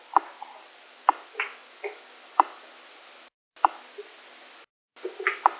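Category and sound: food or drink, sipping water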